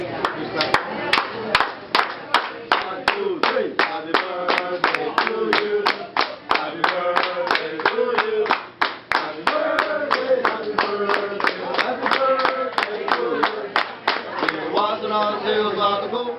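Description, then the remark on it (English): Restaurant wait staff clap steadily and loudly, about three claps a second, keeping time under voices chanting a chain restaurant's birthday clapping song, as at Benihana, with the singing getting livelier near the end. “You know, they'd have their wait staff with out the there clapping, doing right? the clapping song.”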